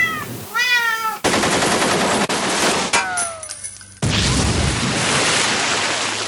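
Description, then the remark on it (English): A composed sound effect: a cat meows in rising, wavering cries, then loud bursts of rapid automatic gunfire from an AK-47 assault rifle crash over it, with another brief meow squeezed between the volleys before sustained firing takes over. “And have you ever had to try and make a cat hold an AK-47? I know technically it's not a machine gun, it's an assault rifle.”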